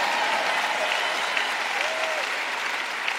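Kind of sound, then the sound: crowd, a few people clapping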